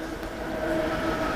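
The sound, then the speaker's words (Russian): A train rolls past on the railway by a platform, a steady rumbling roar with a faint metallic whine that holds evenly throughout, moderately loud, with no voices. “Железная дорога и платформа.”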